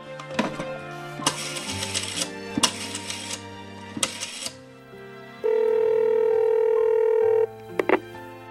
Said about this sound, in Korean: 하지만 난 용기를 내어 그에게 전화를 걸었다.